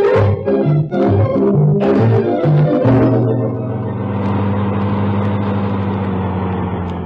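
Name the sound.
car driving off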